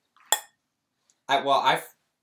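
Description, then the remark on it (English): A sharp, ringing clink of wine glasses in a Thanksgiving toast, followed by a brief burst of someone speaking, then another clink cut off right at the end. “Yeah, yours echoed. That was a wine glass.”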